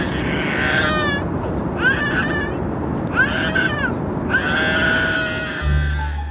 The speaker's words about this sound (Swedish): Det är liksom ett spädbarn. Det här är inte en 3-åring som skriker. Det här är ett spädbarns skrik. Det är falsett, det är högt.